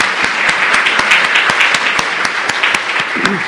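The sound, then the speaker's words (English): A crowd claps steadily for the speaker and the cooks after a shared meal, dense overlapping hand claps filling the whole stretch at an even, fairly loud level, with a brief voice murmuring near the end. “And we might as well clap for the cooks, too, right?”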